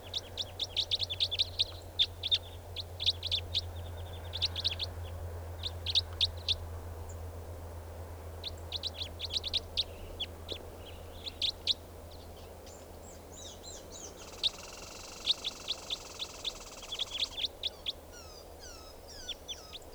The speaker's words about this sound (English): That four birds are all calling now, just perched in the tree, they're gonna take off.